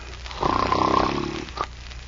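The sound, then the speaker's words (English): A man snores once, a deep, rough, buzzing inhale lasting about a second, fairly loud, followed by a brief softer snort before it goes quiet. “Now the fat went to sleep too, boys.”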